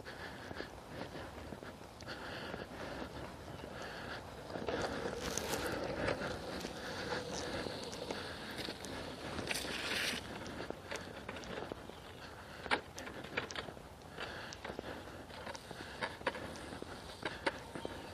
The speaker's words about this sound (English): Neighbor on a scooter. This guy and his wife go out on their scooters every day. It's sort of like a skateboard with a handle.